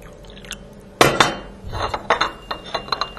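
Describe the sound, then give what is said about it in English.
China clinks and rattles as a cup of tea is set down, a loud clatter at first followed by several lighter, bright chinks of cup against saucer and spoon, with no talking. “Are you ready for a cup of tea?”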